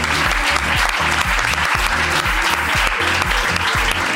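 Steady, dense applause from an audience fills the whole stretch, a loud continuous patter of many hands clapping with no one speaking over it.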